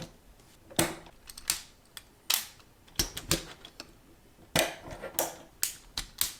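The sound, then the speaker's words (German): Sharp plastic clicks of Lego Technic parts snapping together, about a dozen crisp snaps in an uneven rhythm, fairly quiet, with no talking. “Klick, klick, klick, klick. Die habe ich auch noch, diese Federn.”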